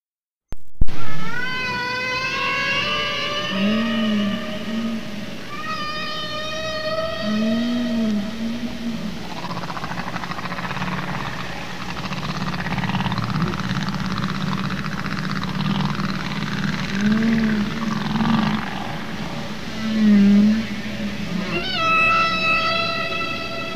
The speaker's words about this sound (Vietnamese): Đây là một ví dụ bài hát của một con cá voi từ Wikipedia.